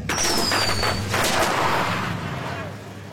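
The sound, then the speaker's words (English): Firecrackers set off as a prank crackle and bang in a loud, steady burst of sharp pops, with a high whistling streak at the start and a noisy background throughout. “When those other Parkers prank them on the way out with firecrackers, Mike must flex his toughness.”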